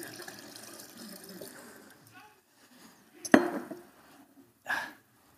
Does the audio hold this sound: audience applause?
no